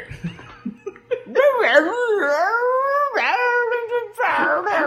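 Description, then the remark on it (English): Royal Carey's dog howls and whimpers in long, wavering, pitch-bending cries that rise and fall almost continuously, loud, with a few short scuffling noises just before the howling begins. “Apparently, Royal Carey has like a retarded Scooby-Doo dog or something.”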